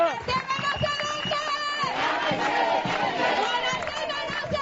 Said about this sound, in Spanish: Bueno, pues más de un centenar de personas se manifestaban en las calles del barrio de Guanarteme protestando contra la gentrificación y la proliferación urbanística.